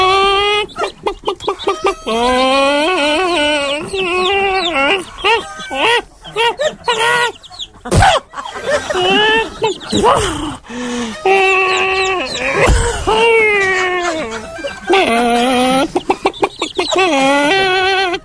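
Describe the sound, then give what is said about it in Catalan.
A hen named Paula, unwell with flu, clucks and squawks continuously, her calls broken by a couple of sharp, sneeze-like bursts, the whole thing sounding hoarse and unwell. “És una gallina que tampoc està gens fina. Escolteu que gripazo nos porta.”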